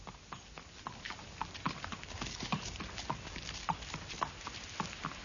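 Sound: horse hooves clip-clopping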